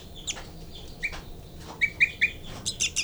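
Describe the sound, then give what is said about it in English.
Rapid, high-pitched begging calls from nestling birds, a series of short squeaky chirps coming in quick bursts, clear with no talking. “And that's 3, 3. Baby begging.”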